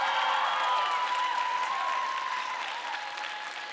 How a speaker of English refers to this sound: Can we just give a round of applause to our children's choir? Thank you so much for blessing us this evening.